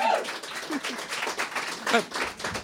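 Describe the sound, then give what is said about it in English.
Steady audience applause welcoming neurologist Dr. Susanna Sullivan, a dense patter of many hands clapping at once, with a few voices calling out over it. Moderately loud and continuous for a few seconds. “So, please, big round of applause.”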